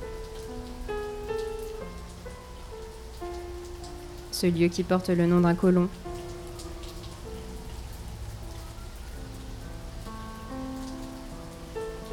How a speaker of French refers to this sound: Laissez-vous porter par la pluie.